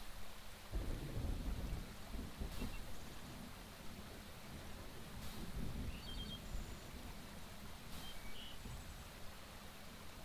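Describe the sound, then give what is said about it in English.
Steady rain hisses throughout while deep, rolling thunder rumbles loud, swelling and lingering across the whole stretch, with a few sharp cracks breaking through. “As far south, the storms do come during the day.”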